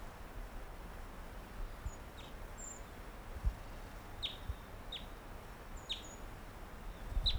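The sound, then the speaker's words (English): Thin, high calls of a singing wild bird sound in short bursts: a few faint whistles early on, then four sharp descending chirps spaced roughly every second, over a steady background hiss. “That was just recorded. Gave some songs and flew nearby.”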